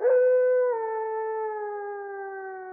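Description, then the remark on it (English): A corgi gives a single long, wolf-like howl that holds one steady, mournful pitch, dips slightly early on, then sustains clear with no other sounds around it. “He's so hot, blurted the corgi head, before rocking his head back to wolf howl.”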